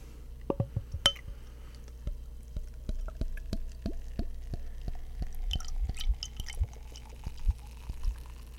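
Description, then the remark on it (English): A strawberry wheat beer pours quietly into a glass: a scattering of soft drips, small glassy clinks and a faint fizzing crackle, with no one talking. “Give it a pour.”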